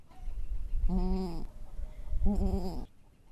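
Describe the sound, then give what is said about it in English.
A mother goat in a goat yard calls twice to her newborn kid in close succession, each a low, quavering bleat lasting about half a second, over a faint, steady outdoor hum. “That noise that she's making is very specific. I mean, she only makes that noise for her babies.”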